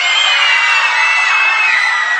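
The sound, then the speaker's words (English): An audience yells anything they want at full volume all at once on the count of three, a dense, sustained roar of overlapping voices that holds steady for a couple of seconds, loud. “I want you guys to yell really loud anything you want on the count of three.”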